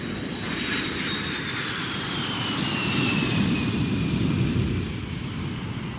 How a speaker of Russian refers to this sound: Только когда самолет, взревев, устремился в черное небо, и они, оторвавшись от земли, сами стали маленькой планетой, отрезанный от остального мира, он подумал, что этот случай чем-то напоминает их полет.